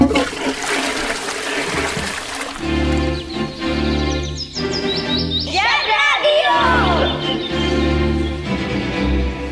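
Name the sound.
toilet flushing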